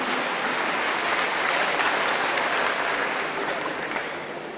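A large audience claps steadily: a dense, continuous wash of applause with no voices, holding level for several seconds and then starting to fade slightly.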